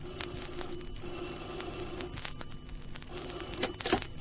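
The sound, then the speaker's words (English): An old-fashioned telephone bell rings in a steady, rattling trill, moderately loud, with no voices present. “In the morning, I had a cup of coffee and a phone call.”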